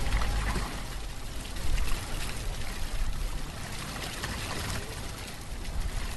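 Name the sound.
water flowing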